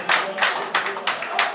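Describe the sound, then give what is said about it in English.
A crowd of football fans in a bar claps in unison at the final whistle of a Ukraine–Wales match, applauding their team: five sharp, evenly spaced claps over a steady murmur of crowd noise, loud. “When the final whistle blows, the fans applaud their team.”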